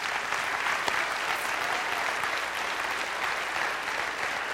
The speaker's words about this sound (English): And can we just give them an applause and just